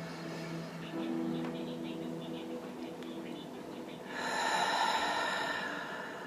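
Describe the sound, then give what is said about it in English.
Slow, deep breathing during a short meditation practice: a long, soft inhale through the nose followed by a louder, airy exhale out the mouth, calm and unhurried with no talking. “Breathing in through the nose and out the mouth. Slowing it down. Breathing deeply.”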